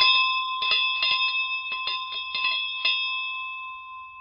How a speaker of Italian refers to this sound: Poi sedette col muso lungo, l'orgoglio ferito, finché non suonò la campanella.